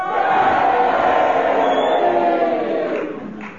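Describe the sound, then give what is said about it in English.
A large audience votes by roaring all at once, a dense, loud mix of cheers for Kenneth Williams and drawn-out boos for Magnus Pike, holding steady for a few seconds before trailing off. “If you agree with Magnus Pike, would you boo for him? And will you all do it together now?”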